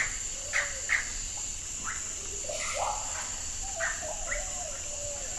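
Amazon rainforest ambience: a steady high insect drone fills the background while scattered bird calls and chirps ring out, no voices present.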